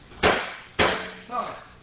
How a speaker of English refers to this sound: Now, every year, I try to bring out the chair. Now, looks like a chair. Sounds like a chair.